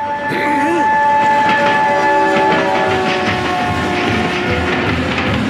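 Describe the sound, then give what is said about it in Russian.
A train rumbles loudly along the rails, its steady roar filling the whole stretch while sustained horn-like tones ring out over the clatter. “Вот он, поезд едет, скорее плавь.”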